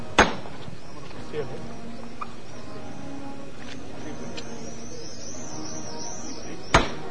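Two sharp, loud hammer knocks ring out about six seconds apart in a crowded plaza in Écija on a cold day with the wind stopped, with a low crowd murmur and faint high whistling tones filling the quiet gap between them.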